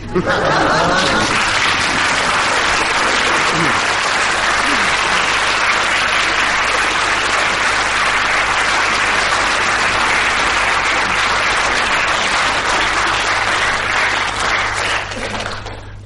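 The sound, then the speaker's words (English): Sustained, dense applause from a sizable audience after a told story, steady and loud for about fifteen seconds with a bit of laughter mixed in near the start, then tapering off at the end. “I think the amount of applause is about the same for both of them, so that's one mark each.”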